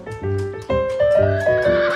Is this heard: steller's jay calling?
no